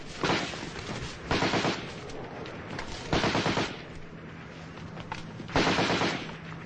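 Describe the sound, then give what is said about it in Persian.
Rapid bursts of loud automatic gunfire, four sharp volleys of rattling shots separated by short pauses, with a faint rustling background, as Ali fires from his hiding place in a reed bed at Iraqi soldiers, hitting three. No voices. “علی از مخفیگاهش بیرون میاد و شلیک می کنه و سه تا عراقی رو می زنه و یکی از اونها فرار می کنه.”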